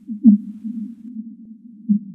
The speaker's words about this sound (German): Der Gesang der Finnwale kann so laut sein wie Motoren sehr großer Schiffe und er ist unter Wasser noch weit über 1000 Kilometer entfernt zu hören.